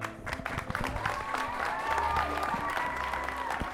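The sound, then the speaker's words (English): A large audience claps steadily and enthusiastically with scattered cheers as actors take their final bows at the end of a student theater show at Hinckley Big Rock, while swelling music plays faintly underneath. “Our actors take their final bows and the crowd erupts.”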